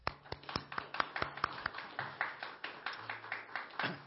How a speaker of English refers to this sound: Thank you. We are so blessed because of you. Give them a hand.